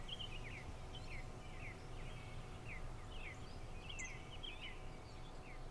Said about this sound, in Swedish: Och fåglarna ger mig verkligen glädje. Jag är så glad när naturen kommer till liv igen.